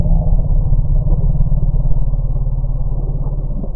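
A deep, steady elephant rumble, the 'bee rumble' alarm call recorded from elephants confronted by African bees, droning low and loud with a throbbing, engine-like pulse for the whole few seconds, with no voices.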